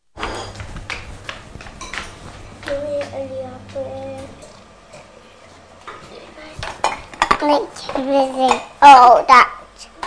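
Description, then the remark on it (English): Plates, including a dirty flower-patterned plate, and cutlery clatter and clink in bursts as a dishwasher is loaded, with a low steady hum underneath and a child's voice chattering through the later part. “It's a dirty plate. Put it in the dishwasher.”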